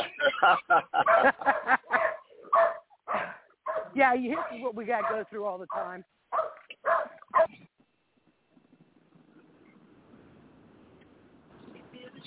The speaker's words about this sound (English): It's the excessive barking over the same. Oh crap! Never mind. It's another dog. That's why.